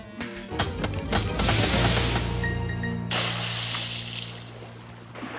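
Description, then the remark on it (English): Hot water pours steadily for several seconds, a continuous rushing splash with a few clinks at the start, then settling into a softer, even stream. No one speaks. “That should be enough hot water.”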